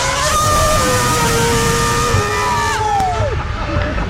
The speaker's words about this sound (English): Okay, so we're going to do a test. Can a girl scream louder than a car? Here it comes around the corner.